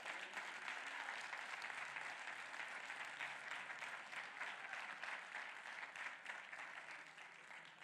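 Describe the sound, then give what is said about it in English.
Sustained applause from a church audience giving God a hand clap of praise, many hands clapping together in a dense, steady wash of sound that holds loud for several seconds before easing slightly at the end. “Now give God a hand clap of praise.”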